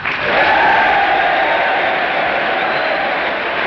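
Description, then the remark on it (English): Sustained applause from members of Congress and the gallery, standing for General of the Army Douglas MacArthur, a dense, steady roar of clapping with some cheering mixed in, loud and unbroken throughout. “The Democrats rise again, as do the members of the gallery, and the applause for General MacArthur starts up once again.”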